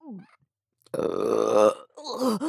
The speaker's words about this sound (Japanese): あれは酒を飲んだだけで、 またゲップが